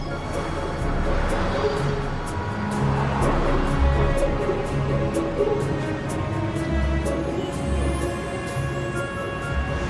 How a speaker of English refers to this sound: As the cars and the tourists swirl around Marble Arch in their thousands